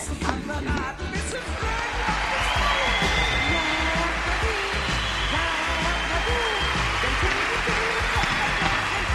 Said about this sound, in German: Was ist das denn? Das rauscht ja wie ein Wasserfall. Hörst du das auch, Alfred? Oh, ja, es ist nicht zu überhören, Chef. Und? Was ist das? Oben der Beifall. Was denn? Die Leute klatschen Beifall, während der noch singt?